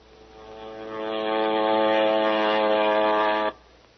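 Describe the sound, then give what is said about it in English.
A propeller airplane drones overhead, its buzzing engine tone swelling in over the first second, holding loud and steady, then cutting off abruptly near the end. No one speaks. “Send it over by airplane.”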